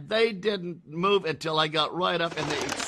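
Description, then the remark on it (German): A voice talks over pigeon sounds, then a sudden, dense burst of flapping wings rushes up as an enormous flock of pigeons takes flight when a person reaches them. “Und dann gehe ich um die Ecke und da saß diese enorme Schar Tauben. Und als ich bei denen ankam, stoben sie hoch.”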